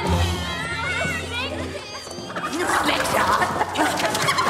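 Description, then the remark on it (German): A chicken clucking in a classroom at a boys' boarding school, with excited children's voices and commotion building around it, lively. “Wer war das? Ein Huhn.”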